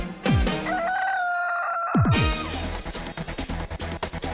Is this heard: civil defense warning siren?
no